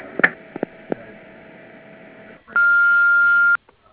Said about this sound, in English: This is Aerotech Corporation. You can send a fax now or leave a message at the beep.